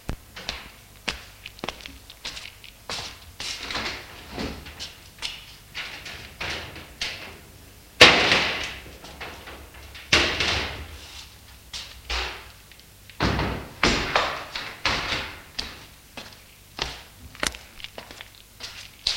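A door at the end of a first-floor corridor opens with a heavy thud, followed by creaks, knocks and scraping as wooden shutters are pushed open to let the sun into a dark room, with scattered footsteps and taps throughout.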